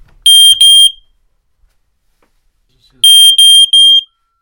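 Piercing beeps from a smoke detector screwed to the ceiling, set off with its test button to check that it works: two sharp tones, a pause of about two seconds, then three more in a quick, even pattern, loud and harmonic-rich with no one talking.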